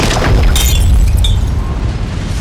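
A heavy, concussive blast of wind roars in with a deep rumble, and bright shattering cracks burst through it as a trident breaks apart, the loud rush then fading slowly.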